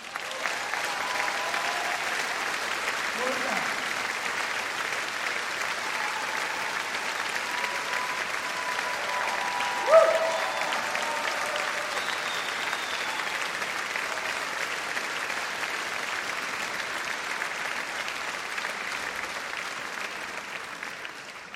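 Sustained audience applause for the orchestrator and arranger lasts over twenty seconds, a dense, steady clatter of many hands clapping at an even loudness with no voices standing out.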